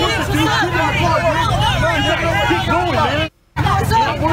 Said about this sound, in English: You can see there are Trump supporters in this truck. And you can see that they begin to shout at the Trump supporters.